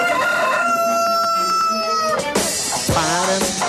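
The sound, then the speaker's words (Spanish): The rooster crow of radio station Radioactiva: a rooster crows loudly, one long strained cock-a-doodle-doo with harmonics sweeping up then breaking into a ragged, wavering finish, heard alone with no talking. “escucha el gallo de Radioactiva.”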